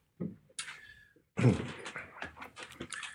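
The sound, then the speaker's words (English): A front door opens after the doorbell for a delivery of a toweling bathrobe ordered online: a low thump, a brief squeak, then a burst of rustling, bumping and shuffling as someone handles it at the entrance. “There's somebody at the door. It sounds like a delivery.”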